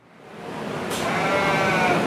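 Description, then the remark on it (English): Goats bleat at a fairground livestock show, several animals overlapping into a steady, noisy, crowded chorus that swells slightly louder over a couple of seconds, with no one speaking. “traveled with his family from Denver City in far west Texas to show goats.”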